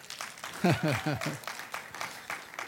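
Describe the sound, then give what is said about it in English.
Sparse, scattered applause from an audience, a thin patter of a few hands clapping unevenly, with a short burst of a voice speaking early on. “There's a splattering of applause.”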